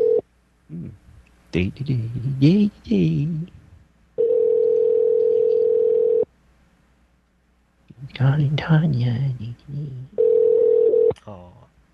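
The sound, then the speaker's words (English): A telephone rings out with steady, clear ringback tones as a call is placed late to a woman's phone, a long ring followed later by a shorter one, while someone talks softly before and between the rings. “I have to call her phone, so this is awfully late.”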